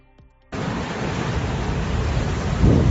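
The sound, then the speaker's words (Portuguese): Heavy, roaring rough sea surf at Riazor in the afternoon during storm Herminia, at high tide, starts abruptly after a brief quiet moment: a dense continuous wash of rough waves with a louder surge near the end, loud with no voices. “Así soaba esta tarde a mar embravecida en Riazor, onde se procedeu a pechar o paseo marítimo coincidindo coa pleamar por precaución.”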